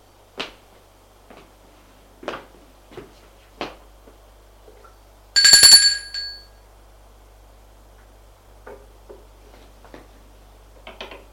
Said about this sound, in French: Sort de l'ascenseur. Va sonner à l'appartement.